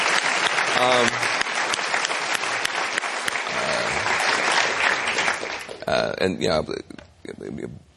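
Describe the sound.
Sustained applause from an audience honoring a civil rights hero who is present and asked to stand fills the first several seconds with dense, steady clapping, then fades out as a man begins speaking over the last couple of seconds.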